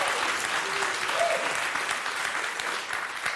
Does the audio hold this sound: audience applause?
yes